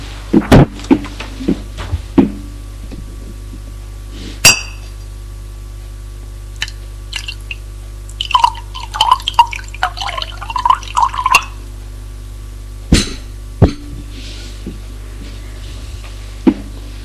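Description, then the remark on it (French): A few sharp glass clinks, then bourbon glugs and trickles into a glass at the living-room bar for about three seconds, followed by a couple more clinks as the bottle and glass are set down. No one speaks. “Il va au bar du salon se servir un bourbon.”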